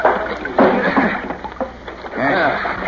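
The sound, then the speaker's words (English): A small rowboat tied to a ladder under a dock rocks and creaks as people step into it from the ladder, while water sloshes and laps against its hull, with low voices murmuring over the steady watery wash. “Easy when you step off the ladder, Lieutenant. Try to hit the boat dead center or she'll tip.”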